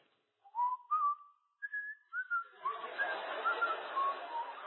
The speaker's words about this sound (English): And I was whistling at the counter. The guy behind the counter says, man, you look happy.